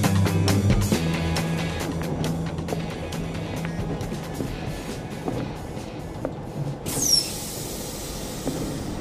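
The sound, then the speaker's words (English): A train rolls along the rails with a steady low rumble and scattered clanks, ending with a brief high metallic squeal. No one speaks. “The train is leaving in 3 minutes.”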